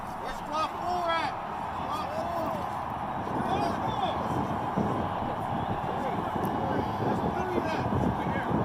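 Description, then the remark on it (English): A loud, dense crowd roar in a stadium, from a 16-second video, fills the whole stretch, countless voices shouting and chanting over one another in a steady, unbroken wall of noise with occasional rising yells poking through. “What I want to get across is the audio of the crowd in the background is thunderous.”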